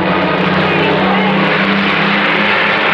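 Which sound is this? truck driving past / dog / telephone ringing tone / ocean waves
truck driving past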